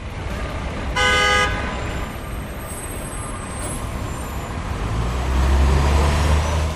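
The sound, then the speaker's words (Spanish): Steady roar of road traffic with a loud, harmonic car horn blaring for about a second early on, then a heavy low engine rumble swelling near the end. “Pero sin el sonido de los coches y del tráfico”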